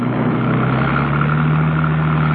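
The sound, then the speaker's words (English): A car engine runs steadily and loudly, a constant low droning hum with a slight rising pitch, as the car is driven out of a car park in pursuit of another car, with no voices or other sounds over it. “Conrad, in his car, made after her, heading to cut her off.”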